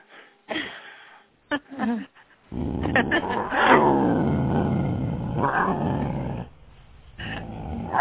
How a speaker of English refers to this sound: I think I hear that lion trying to sneak up on somebody. What was that? I just hope it's nobody. It's a mountain lion.